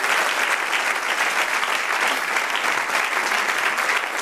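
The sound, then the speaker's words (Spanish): A church audience breaks into sustained, dense applause for God, many hands clapping steadily and loudly for several seconds with no pauses, even from start to end. “Dale un aplauso al Rey.”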